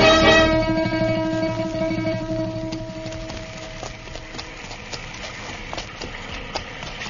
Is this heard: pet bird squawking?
no